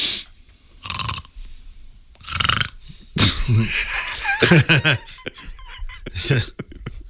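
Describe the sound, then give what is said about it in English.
A person imitates snoring with several rough, rasping bursts spaced about a second apart, fairly loud, mixed with a bit of laughter and voice sounds. “I don't do that anymore. What? Snore?”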